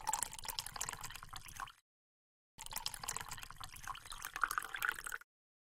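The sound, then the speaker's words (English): Water splashes and gurgles steadily in two bursts separated by a short pause, the second with a faintly rising tone as a glass fills. No voices are heard. “Yeah, I can do water instead.”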